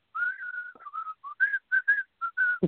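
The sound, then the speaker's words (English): A person whistles a short, lilting tune of about a dozen notes, some held and some clipped, with brief pauses between them, clear with no talking, ending on an abrupt low burst. “Hey, I can imagine when … walks in the studio, does he whistle?”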